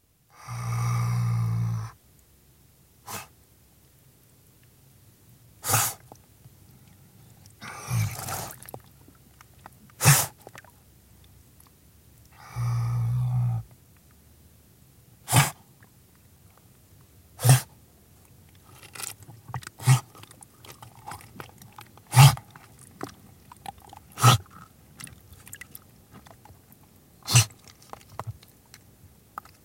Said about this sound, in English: But river otters do make sounds, and one of their most prominent is a loud snort, heard here along with low growls, given as an otter visits its cave-like feeding den at water's edge.